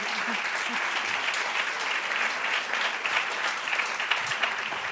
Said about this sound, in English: My, can we give another round of applause? My God. She brought that whole thing.